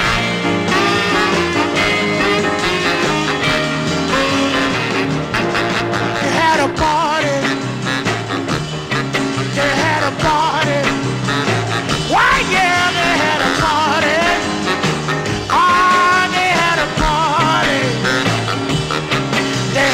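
A blues record released on the Federal label plays loud and steady, a full band with a singer's voice sliding and wailing over a driving, rhythmic backing for the whole stretch.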